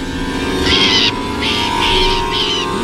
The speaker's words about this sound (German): In Deckung, Vorsicht, der Vogel greift uns an. Auf den Boden.